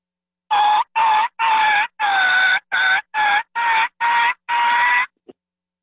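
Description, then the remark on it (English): A voice imitates a low, raspy growl call, delivered as about nine short throaty bursts in a steady rhythm, loud, ending with a faint click. “So the growl is probably one of the most important sounds I make, because it's what I call a fill-in sound, and it lets everybody know you're good, and it's simply like this.”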